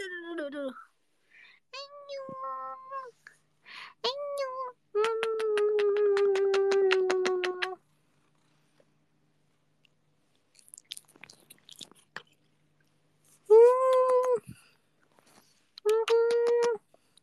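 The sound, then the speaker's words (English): A cat that recently had surgery meows repeatedly, several short cries and one long drawn-out wavering yowl, then a pause with faint rustling before two more clear meows. “We have a special guest, new appearance, first ever. Remember my cat who's having surgery last time.”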